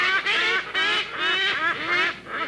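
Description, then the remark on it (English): A hornbill calls with a rapid series of loud, nasal, honking notes, about five in quick succession, with no voices present. “Most of the 61 hornbill species in the world exhibit these strange behaviors.”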